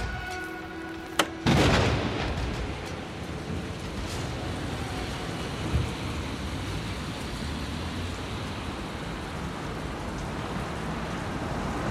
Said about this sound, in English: The rain continues to pour, and the taxi carrying Torco stops 100 meters from 3354 Mello Street.